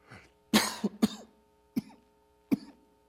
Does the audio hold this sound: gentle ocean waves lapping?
no